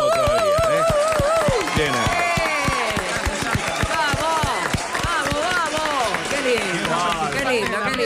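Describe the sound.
Steady applause, dense rapid clapping that stays loud for the full eight seconds, with voices talking and calling out over it.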